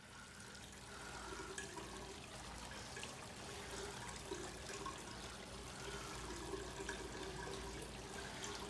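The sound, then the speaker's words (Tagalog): Water runs steadily from a tap into a sink as a man washes his face in front of a mirror, a continuous rushing hiss that swells slightly after the first second and holds evenly to the end, with no voices. “Naghihilamo siya at pinagmamasdan ang sarili sa salamin.”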